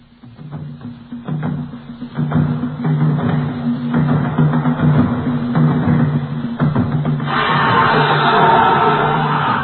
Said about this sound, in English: Hear that? It's a noise for nightmares. The trumpeting of a maddened bull elephant. Immense, crafty, dangerous, able to destroy a man with a single motion. The most frightening sound of the jungle.